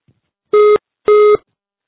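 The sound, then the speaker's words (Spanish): Two loud, steady electronic beeps, each about a quarter second long with a short gap between, sound alone as a voicemail system's mid-pitched tone signalling that recording begins. “Por favor, deja tu mensaje después del tono.”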